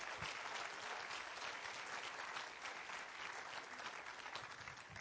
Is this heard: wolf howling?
no